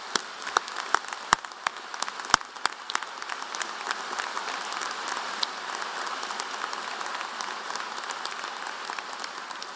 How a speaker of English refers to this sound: And I ask you to join me in a round of applause for that wonderful music.